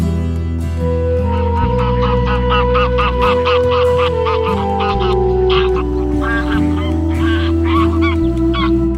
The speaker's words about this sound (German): vielleicht hören Sie Graugänse, wie sie der berühmte Verhaltensforscher Konrad Lorenz untersucht hat